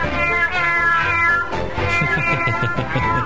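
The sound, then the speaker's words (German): A cat meows loudly and insistently in a drawn-out, wavering cry, then continues with a few shorter, rising yowls. The sound is clear, with no talking. “Seit Corona legen sich sehr viele Leute Haustiere zu, ne? Kätzchen zum Beispiel. Ja, es wird mal wieder Zeit für Katzen-News.”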